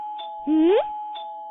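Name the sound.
doorbell ringing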